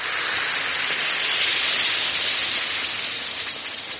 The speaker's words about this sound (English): Yes, it's that cheerful Alka-Seltzer fizz. Music to the ears. Because that fizz means relief is on its way.